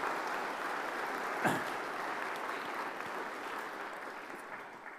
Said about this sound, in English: I really enjoyed everything the boys and girls did tonight, and I want to congratulate them and say thank you, and I think we should give them another round of applause because they really did so well.